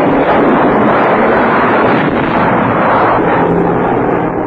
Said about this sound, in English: In broad daylight, mighty squadrons roar across the North Sea. Over Hamburg, Germany's principal seaport and number one war center, tons of bombs rain from the sky.